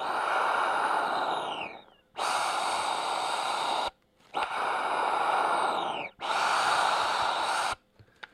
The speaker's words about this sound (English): But here I have discovered that there's a button called, I don't know, it's called the Scottish Death Whistle button on the concertina. And I'm going to do it on you. Listen to this.